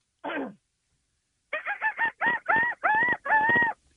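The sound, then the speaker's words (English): A voice imitates a seagull: one short squawk, a pause, then a quick run of about seven loud, harmonic cries that lengthen and rise in intensity, with no other sound. “It's just a seagull.”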